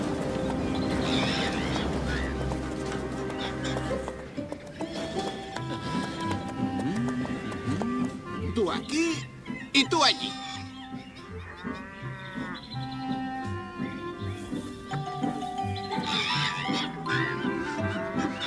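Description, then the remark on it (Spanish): Noah's animals board the ark: horses whinny and neigh over clip-clopping hooves, cattle moo, and overlapping calls rise and fall throughout while a voice briefly gives directions. “Noé, ha llegado la hora de que subas con tu familia y los animales al arca.”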